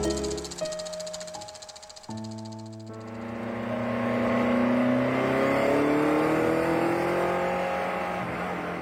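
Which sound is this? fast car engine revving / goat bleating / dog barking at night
fast car engine revving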